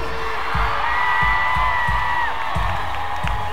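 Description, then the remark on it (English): A large audience of women screams and cheers in a continuous, loud wave, high-pitched shrieks holding steady over the roar while low thumps pulse beneath at a regular beat. “All the ladies scream.”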